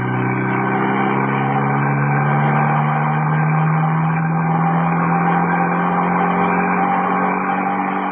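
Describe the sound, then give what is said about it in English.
A car engine drones steadily as cars race up the main road towards the Tarragon Bullring, its low humming pitch rising slightly over the stretch, loud and continuous with no voices. “Baron and Mrs. Peel in the second car.”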